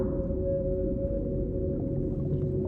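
Orca vocalizations: a sustained, steady mid-pitched tonal call held throughout, layered over a continuous low underwater rumble, with no voices.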